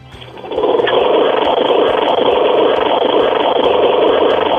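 lawnmower engine running

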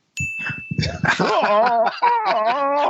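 dog whimpering and barking

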